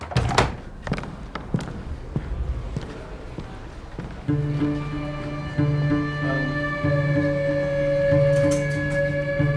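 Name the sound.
doors being thrown open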